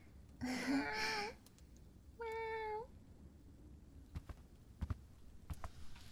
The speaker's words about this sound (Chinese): 是我领回来的猫了。小丽要和男朋友出去旅游，一个星期之后才能回来，就把他家的猫交给我照顾了。